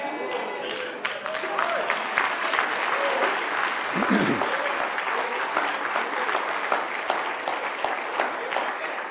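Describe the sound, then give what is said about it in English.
A large church audience claps steadily and loudly throughout, the dense crackle of many hands, with faint voices and a brief shout mixed in around the middle. “Too much clapping their hands.”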